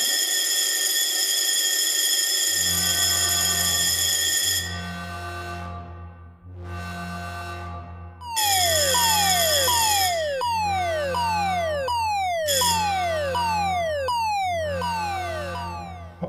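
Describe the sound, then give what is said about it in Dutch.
A fire brigade turnout alarm for a reported fire at the Ooievaarsbos rings as a steady, harmonic-rich tone over a low engine rumble, then gives way to a loud siren wailing in rapid, repeated falling sweeps. “wij moeten uitdrukken. We hebben melding van een bergbrand bij het Ooievaarsbos.”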